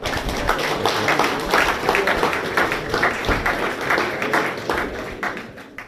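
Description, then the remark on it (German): Warm audience applause for two speakers: dense, steady clapping from many hands that fills the whole stretch, sustained at an even loudness before easing slightly toward the end. “Nochmal einen herzlichen Applaus für die beiden.”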